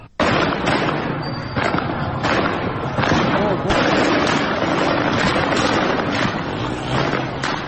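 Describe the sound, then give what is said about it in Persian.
Sharp gunshot-like bangs ring out at irregular intervals, roughly ten in all, over a loud, continuous roar of crowd noise and shouting voices outdoors, with some wind rumble: security forces shooting directly at protesters at a street protest in Shiraz, Iran. “ویدیوهایی در شبکه‌های اجتماعی منتشر شده که نشان می‌دهد نیروهای امنیتی به طور مستقیم به معترضان شلیک می‌کنند.”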